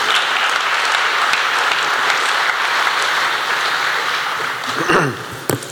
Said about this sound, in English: so give a round of applause for him. Thank you.